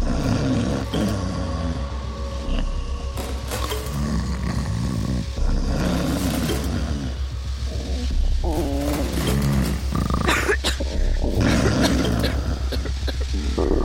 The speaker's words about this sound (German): Der Magen knurrt, wenn wir hungrig sind.